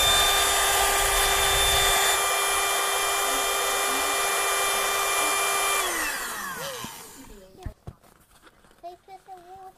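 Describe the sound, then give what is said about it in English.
A battery-powered electric air pump whirs loudly and steadily for several seconds while inflating a pool, then its motor winds down and stops, followed by a few faint voice sounds and light handling noises. “Spend an awful long time, even with an electric one, pumping and blowing, blowing and pumping.”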